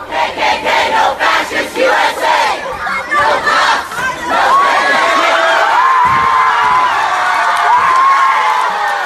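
protest crowd shouting

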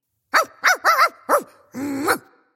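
dog barking

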